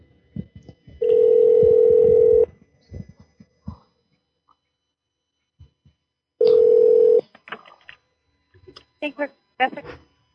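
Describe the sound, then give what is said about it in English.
A telephone line tone sounds twice, each a steady, loud hum lasting a second or more with a pause between, followed by a scatter of short beeps and soft clicks like a number being dialed to call a woman back. “I'm calling her back.”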